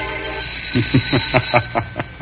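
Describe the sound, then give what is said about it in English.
A doorbell, rung by a man at a front doorstep, rings with a rapid, even run of about seven metallic strikes over a thin, steady high-pitched tone. The ringing is moderately loud and there is no talking. “Shall Lothar answer a bell?”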